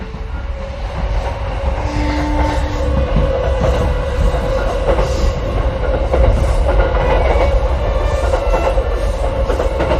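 train running on rails

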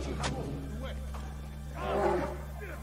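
bear roaring

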